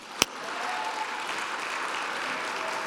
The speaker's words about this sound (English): Can we clap our hands on today?